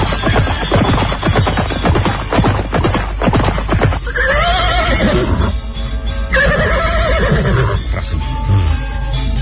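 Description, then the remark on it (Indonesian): Rapid clip-clopping hooves for a few seconds, then a horse lets out two loud, wavering neighs with a short pause between them, as someone is taught to ride it in a town square. “Mengajarkan dia cara naik kuda. Di alun-alun ini, ya.”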